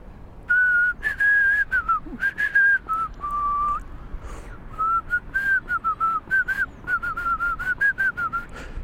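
Someone with a swollen lip tries to whistle a short melody, the notes wavering and a bit breathy, with airy puffs and small breaks between phrases as if the tune is hard to hold.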